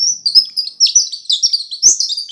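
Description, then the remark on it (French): A bird chirps in quick, high-pitched bursts, a steady run of bright twittering notes, fairly loud, with no voices present. “Un matin, un oiseau est venu.”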